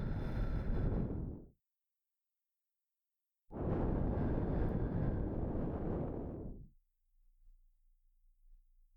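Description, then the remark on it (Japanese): Two breathy blows of air softly into the ear: a short puff, a pause, then a longer whooshing exhale that tapers off into near silence. “それに、お耳に吐息をふーっとした時の先輩の反応も可愛らしくって胸をくすぐられてしまいます。”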